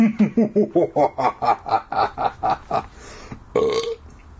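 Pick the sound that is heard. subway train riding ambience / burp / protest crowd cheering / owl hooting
burp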